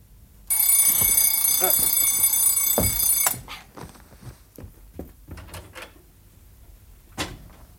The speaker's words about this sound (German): Und am Abend darauf stellte ich meinen Wecker auf 2 Uhr.